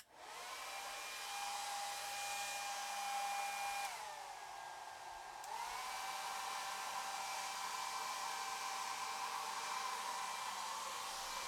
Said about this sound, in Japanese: じゃあドライヤーで乾かしていくね。スイッチオン。